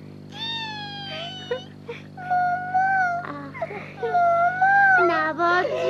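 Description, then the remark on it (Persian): A baby who has just woken up whimpers in a series of short, wavering cries that rise and fall, growing slightly louder and more insistent toward the end. “بیدار شد، بیدار شد. ساکت یواش، بچه میترسه.”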